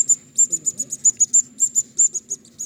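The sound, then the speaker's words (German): A rapid series of about fifteen thin, high-pitched squeaks from a mouse-squeak hunting lure call (a Maushieb, sold at the Jagdhaus), used for luring foxes, evenly pulsed and fairly loud, over a faint low murmur. “Ja, also das ist der Maushieb.”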